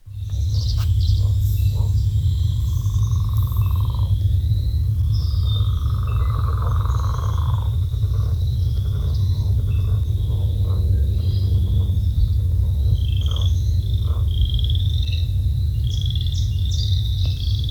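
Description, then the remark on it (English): A chorus of leopard frogs gives low, rattling snore-like calls that overlap continuously, with other frogs and insects trilling faintly in the background over a steady low rumble. “The way I remember this one is it's a leopard frog. It sounds like it's kind of snoring.”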